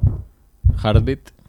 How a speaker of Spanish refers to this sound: Heartbeat está bien.